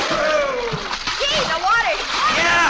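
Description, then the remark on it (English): Loud, continuous splashing of water as kids run out and jump into a swimming pool, with excited voices whooping and calling out over the churning water. “Let's all run out and jump in the pool.”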